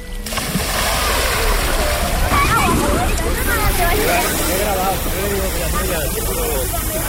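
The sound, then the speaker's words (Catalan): Steady, loud splashing and sloshing of water in a swimming pool during a heat wave, with a busy crowd of voices chattering and calling out throughout. “L'aigua de les piscines ha donat molt de sí.”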